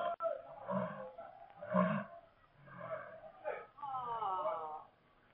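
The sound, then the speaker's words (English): A lion loose from its cage in a stadium roars in a series of deep, throaty bursts about a second apart, ending in a longer drawn-out moaning roar, loud, with no other sounds. “A lion was loose from its cage.”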